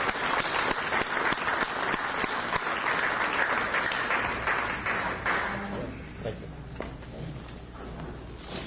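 A crowd applauds steadily for about five seconds, a dense wash of many clapping hands, before the clapping thins out and fades into a low murmur.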